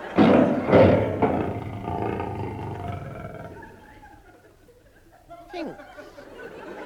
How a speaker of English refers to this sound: That is not my patrol leader. It is a tiger. Thinks, what is a tiger doing in East Finchley?